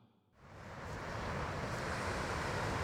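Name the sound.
ocean waves and wind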